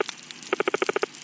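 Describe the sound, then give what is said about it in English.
Reef fish on a coral reef chatter underwater: a quick run of about eight short, evenly spaced tonal pulses, clear, over a constant fizzing crackle from thousands of snapping shrimp clicking their claws. “Some fish make sort of chattering sounds.”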